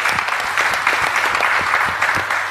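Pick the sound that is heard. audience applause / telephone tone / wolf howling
audience applause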